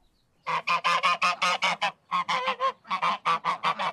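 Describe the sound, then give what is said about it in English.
A gaggle of lively geese honks loudly at a countryside property about 40 kilometres from Nairobi, Kenya, a rapid string of harsh, overlapping calls with a brief pause midway before the noisy honking resumes. “Anyone who approaches John Kimani Wanjiru's property is always greeted by a gaggle of lively geese”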